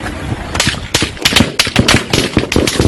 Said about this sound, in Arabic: فبكل وضوح يبين الفيديو سيارات الإسعاف حاملة لعلامات وأضواء الطوارئ عندما أطلق جنود العدو النار باتجاه المسعفين المرتدين لملابسهم الخاصة وستراتهم البرتقالية المتعارف عليها دوليا وعالميا مباشرة فور ترجلهم من مركبات إطفاء وإسعاف